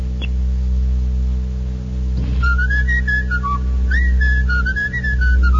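Someone whistles a lively, bouncing melody for several seconds, the notes sliding up and down, clear over a steady low electrical hum; no one speaks.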